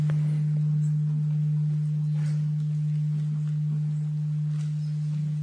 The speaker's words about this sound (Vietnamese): Phải làm thế nào như là để cho tiếng chuông nó từ ở trong lòng chuông nó bay lên như là con chim bồ câu.